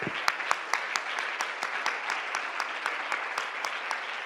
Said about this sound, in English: Everybody clap your hands.